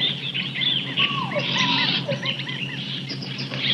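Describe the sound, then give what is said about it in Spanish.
Dense jungle ambience on a hot day: overlapping bird calls and chirps, squeaky monkey cries, and a steady insect drone filling the background, all continuous and fairly loud with no voices. “Oiga, hay aves, monos, insectos. ¿Quién sabe qué tanto bicho?”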